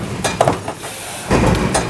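A huge stamping press in a factory, stamping out parts, punches through metal, throwing out a series of sharp, loud metallic bangs and clanks in a quick, uneven rhythm over a steady machine rumble.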